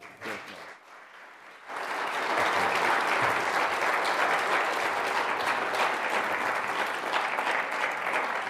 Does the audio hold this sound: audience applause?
yes